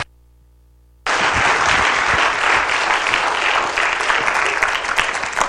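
After a second of near silence, loud applause from a large crowd bursts in and holds steady, a dense wash of many hands clapping at once, fairly close and sustained to the end.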